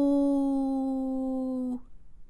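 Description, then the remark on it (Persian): A single long, steady howl, loud, held for under two seconds before cutting off abruptly. Its even, sung quality suggests a human voice imitating a wolf's howl, in a Radio Dari book-reading programme. “زوزه گرگی از دور بلند شد.”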